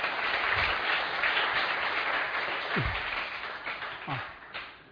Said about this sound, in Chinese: 没错，很好，大家给他鼓掌一下，真的有在听哎。